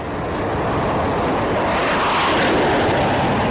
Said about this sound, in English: The USS Dwight D. Eisenhower has been launching dozens of sorties with its F-18s day and night for more than 4 months now.